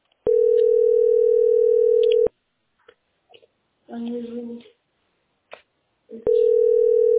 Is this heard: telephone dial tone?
yes